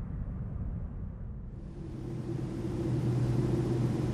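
A steady, low airplane cabin engine drone on a flight to Brazil, with a broad rushing hiss that swells slightly over a few seconds, a faint humming tone emerging partway through. No voices.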